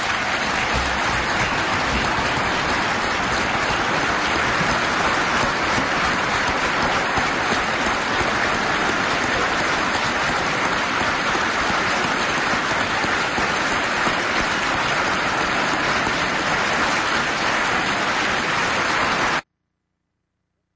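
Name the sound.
audience applauding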